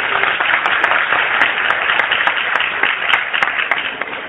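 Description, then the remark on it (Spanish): A crowd applauds steadily for several seconds for a student about to read, a dense wash of many hands clapping at once that holds loud throughout and eases slightly at the end. “Un aplauso para ella, grande.”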